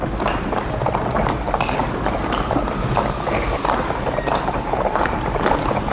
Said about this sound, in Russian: Лошади измучились. Мы продрогли, извозчики с криком и бранью колотили лошадей, которые фыркали, упирались и не хотели ни за что в свете тронуться с места.